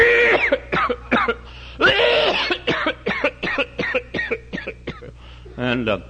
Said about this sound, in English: And so they started, and I got to coughing.